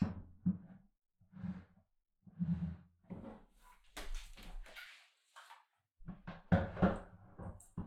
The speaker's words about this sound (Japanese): 椅子がないのか。折りたたみの椅子も持ってきたから組み立てて。